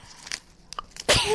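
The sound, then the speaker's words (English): A single sudden, loud sneeze bursts out near the end, after a few quieter rustling and clicking sounds. “Bless you.”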